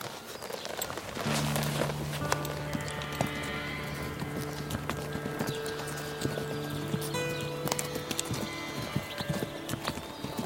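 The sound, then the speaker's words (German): A ridden mare walks at an easy pace, her hooves clip-clopping in a steady rhythm while sustained tones, like soft background music, hum underneath. “Sie müssen die Knie am Pferd lassen, damit sie spürt, wenn sie den Druck verändert.”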